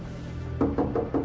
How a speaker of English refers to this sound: Can you take me to his compartment? Certainly. Right this way. Stay here. Knock on the door, but stay away from me.